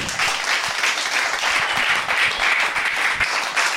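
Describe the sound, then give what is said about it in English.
A large audience at a Q&A applauds steadily, a dense wash of many hands clapping at once, loud, sustained without a break for the whole stretch with no voices over it. “Can we have a It'd big like round shower. Of applause?”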